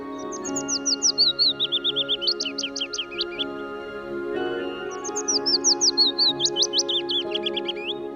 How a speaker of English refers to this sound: And towards the end of the month, the willow warbler will join the symphony. You can hear them in the dawn chorus, like this.